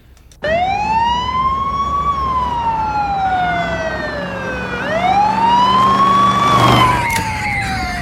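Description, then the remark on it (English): An emergency vehicle siren wails loudly, sweeping slowly up and down in long rising and falling tones over a low engine rumble. “Turn the siren off!”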